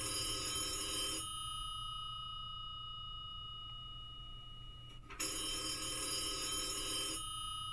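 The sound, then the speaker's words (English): A telephone rings in two long bursts of bright, buzzy trilling about four seconds apart, with a quiet pause between, with no voices. “The phone is ringing.”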